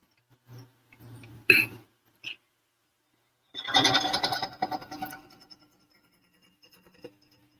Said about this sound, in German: Das ist das Dachfenster, das hat einen Regensensor.